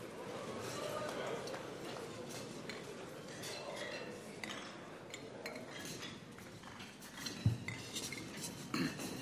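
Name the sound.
glasses clinking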